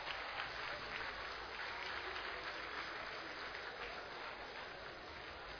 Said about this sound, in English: Can we stand up to clap for him? I think I want a standing ovation for him. Let's clap for him.